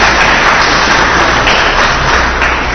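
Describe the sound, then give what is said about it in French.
Sustained applause from an audience in a hall, applauding themselves at the start of a Radio Okapi evening magazine show: a dense, steady wash of clapping that stays loud and even for the whole stretch, with no voices rising above it. “Si vous êtes dans la salle, applaudissez pour vous-même.”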